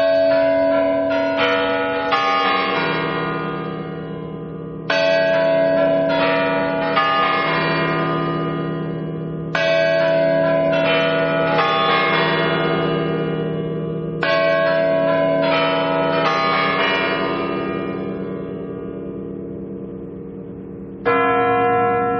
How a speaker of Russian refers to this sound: В 1996 году во время инаугурации Бориса Ельцина куранты после традиционного перезвона и отбивания часов после 58 лет молчания вновь заиграли.